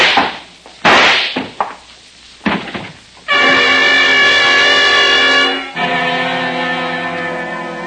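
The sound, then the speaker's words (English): A few sharp, cracking gunshots ring out with quick decaying tails, then a loud, sustained, brassy chord-like tone takes over and holds to the end. No one speaks. “Put away that gun.”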